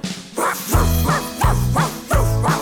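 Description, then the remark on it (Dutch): A dog barks loudly, about four deep woofs in a steady, evenly spaced rhythm over a faint continuous background. “Nu bromt hij alle dagen en blaft nog bovendien.”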